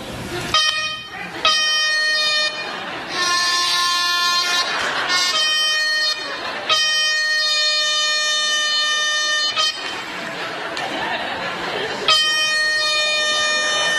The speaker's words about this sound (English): And so this is one that is, all right, turn it on, and open the screen. It's an air horn, and...